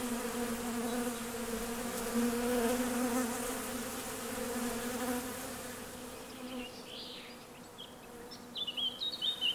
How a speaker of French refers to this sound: J'ai été piquée ici, là. Sur le sein et au bras tout à l'heure, je les remercie les abeilles parce que le venin est aussi un bienfait